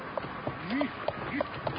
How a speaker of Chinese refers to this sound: 出租车司机正准备掉头，可是车都顶在一起，突然有四只马蹄吸引了老肖。